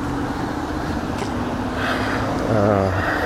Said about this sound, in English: Okay, I'm approaching the intersection of McKinley and St. Mary, which is where my building is located. You can probably hear all the cars.